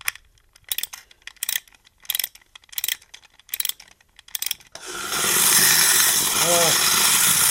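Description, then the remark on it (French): A Chinese-made wind-up clockwork toy of a man with a suitcase, glasses and a hat, its mechanism wound like an alarm clock: a series of evenly spaced ratcheting clicks as it is wound, then a loud, steady mechanical whirring buzz as the mechanism runs, with a brief voice over it. “Un mécanisme d'horlogerie, mais comme un réveil qu'on remonte.”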